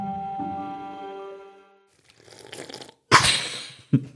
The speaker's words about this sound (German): du hast immer wieder neue Geräusche. Mhm. Wenn es nicht das Knabbern ist, dann ist es heute das schöne Schlürfgeräusch deines Getränks.